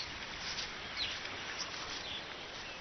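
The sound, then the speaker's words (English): A few brief, thin calls of oxpeckers, insect-eating birds that feed on ticks on grazing animals, chirp faintly and irregularly over a steady hiss of outdoor ambience, with no voices present. “Oxpeckers, insect-eating birds that reach the parts the animals themselves can't.”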